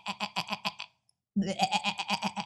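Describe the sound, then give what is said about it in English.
A voice imitates a goat, letting out two loud, quavering bleats, each with a rapid trembling pulse, separated by a brief silent pause. “And a little goat to feed the little family. Bleah! Bleah!”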